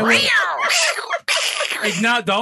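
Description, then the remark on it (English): A person's voice imitates a cat, giving drawn-out, pitch-sliding meows, two or three strained yowls in quick succession with a brief break in between. “Don't make the cat noise.”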